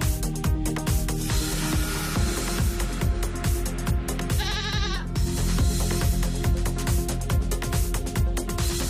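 About 100 goats bleat as a shepherd leads them across Catalonia along the ancient Marina drove road, over a steady, rhythmic music bed, with one clear wavering bleat standing out near the middle. The whole passage stays loud and dense, with no talking.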